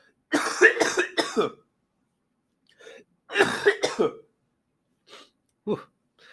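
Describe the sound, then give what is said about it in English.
Harsh, raspy coughing in loud bursts: a quick run of three, a pause, another rough cluster, then a few fainter isolated coughs trailing off. “Thank you for your patience, everyone, as I still coughing and all that stuff, but we're making our way through it here.”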